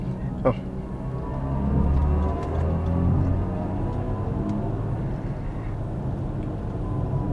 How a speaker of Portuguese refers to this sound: mas é um ronco fake que sai aqui das caixas de som. No Eco Pro ele não faz nada, o silêncio segue imperando aqui. No Comfort fica bem baixinho. E no Sport, aí sim ele fica bem pronunciado.